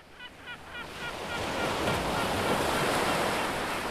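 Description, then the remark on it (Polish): Steady roar of sea surf and wind on a sandy beach on Sobieszewo Island in Gdańsk, by the Vistula, swells up and fills the scene, with a few brief bird calls at the start before the wash of waves takes over. “Morze, piasek, wiatr i Wisła.”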